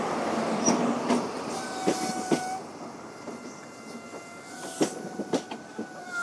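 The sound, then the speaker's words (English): A diesel HST passenger train rolls into a station platform, wheels clacking irregularly over rail joints while faint brake squeals and a steady engine hum fill the background. “I checked with a member of staff that that they were expecting an HST. This is it coming in here.”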